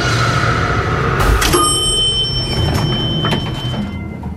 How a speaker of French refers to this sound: On pense que, comme dans un film d'horreur réussi, quelque chose d'inattendu et de dégueulasse va nous faire sursauter. Et ce quelque chose, c'est la porte de l'ascenseur qui se referme, sans Elisa.